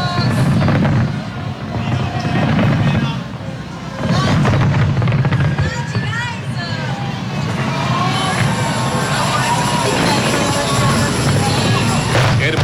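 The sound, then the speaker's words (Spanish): Booming New Year fireworks in Sydney, Australia, marking 1 January 2026, burst repeatedly over a loud, cheering crowd, with thick rumbling explosions and a continuous roar of voices, some whistling and shouting, filling the scene from start to finish. “Los fuegos artificiales entonces ahí en Sydney.”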